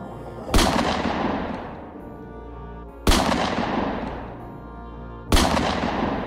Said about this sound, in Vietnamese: không hiểu sao súng trong tay tôi lại siết cò. Tràng đạn liên thanh kéo những vệt lửa đỏ lừ sáng bừng soi rõ cảnh tượng bên đó.